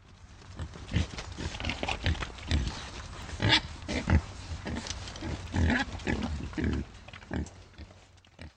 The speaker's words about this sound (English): This is a boar looking for food.